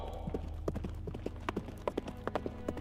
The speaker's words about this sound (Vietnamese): Tiếng vó ngựa vẫn còn vang, nhưng tiếng mưa gió và chuông gió chợt vang lên trở lại.